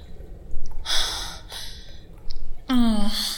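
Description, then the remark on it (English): A woman gasps: a couple of sharp, breathy intakes of air, then a longer voiced gasp with a rising tone at the end. “I gasp as I slam down onto his hips.”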